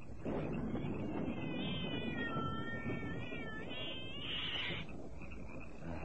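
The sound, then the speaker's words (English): A cat lets out long, wavering meows that rise and fall like a drawn-out yowl, heard over a steady, dense background noise. “Cat. What do you want, Cat?”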